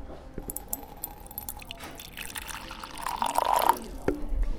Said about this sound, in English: So let's pour some tea into each cup. Well, wait on it. Let's do it this way. Oh, yeah. There's some in there. I'll do it from up here. Okay.